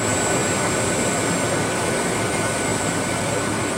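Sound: jet airplane landing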